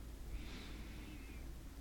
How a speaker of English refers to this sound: Just simply breathing in